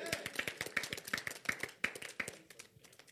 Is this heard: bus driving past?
no